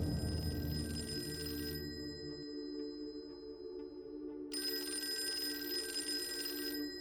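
A telephone rings twice with a pause between, a steady, fairly loud electronic trill, with a low hum underneath and no voices.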